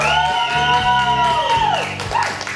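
A loud, sustained burst of audience cheering with whoops and hollers for a guest being welcomed onto a TV sports show, rising and falling over a steady roar of applause for a couple of seconds, with no one speaking over it.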